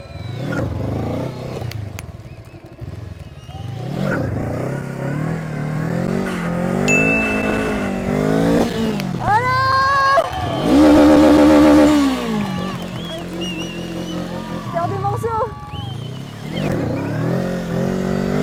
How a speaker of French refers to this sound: Du coup, bah, c'est parti. Oh ouais! Ah la vache! Elle patine! Ça va lever, hein? Mais là, la moto, en fait, elle patine de ouf.